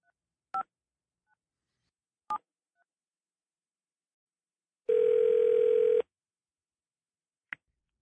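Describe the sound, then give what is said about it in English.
Two isolated telephone keypad beeps spaced well apart, then a loud steady dial-type tone holding for about a second, and one last short tone blip; no voices, just silence between sounds. “It's time to make some phone calls.”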